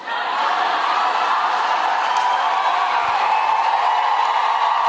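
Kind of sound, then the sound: crowd, rally crowd cheering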